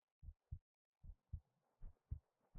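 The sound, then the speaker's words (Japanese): A muffled heartbeat, the speaker's own, thumps in steady lub-dub pairs, three double beats in quick succession, low and soft with no voices over it. “そうです、私の心臓の音。”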